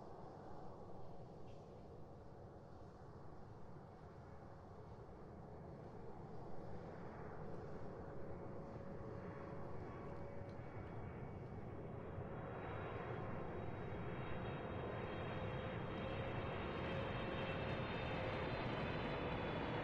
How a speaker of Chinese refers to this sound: 好了，现在我帮您扣一下安全带，因为飞机即将起飞了。好的，现在请您放轻松，飞机起飞的过程中耳朵可能会有点不舒服，但是没关系，放轻松就可以了。